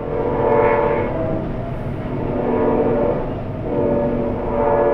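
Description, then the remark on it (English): A train horn blares in long, sustained blasts over the rumble of a passing train at 3:45 a.m. in the middle of the night, heard from a home near the train line. It is loud, swelling and fading in waves, with no voices. “I asked because I live near the same train line, about 30 miles north, and here's what it sounds like at my place in the middle of the night. 3:45 a.m. to be exact.”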